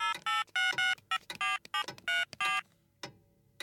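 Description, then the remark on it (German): A rapid series of short electronic keypad tones as a mobile phone number is dialed to call Flori's mobile, about ten beeps in quick succession, followed by a couple of faint clicks. “Ich probier's nochmal auf Floris Handy.”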